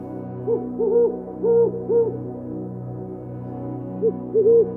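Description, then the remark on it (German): Distant eagle-owl hooting at night: a series of deep, hollow hoots in two bursts separated by a quiet pause, sounding over a steady low background hum with no voices. “Nur wir sind noch unterwegs und werden von dem fernen Rufen des Uhus zu einem nächtlichen Spaziergang eingeladen.”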